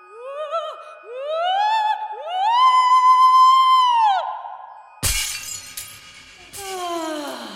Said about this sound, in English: Now, Venelia, break the glass and put out the light.